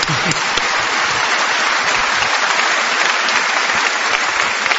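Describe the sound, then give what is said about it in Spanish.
Steady applause from a crowd fills the whole stretch, a dense wash of many hands clapping at an even, sustained level with no talking over it. “Hay que aplaudir a Albert Camus, por favor.”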